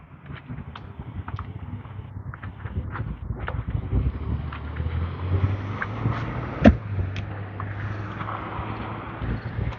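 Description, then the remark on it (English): Deep, steady rumbling of trucks passing in the morning, building after a few seconds and holding as a continuous low drone, with faint outdoor ticks and chirps scattered on top and a brief knock near the end. “Rumbly trucks, yes, we have rumbly trucks this morning.”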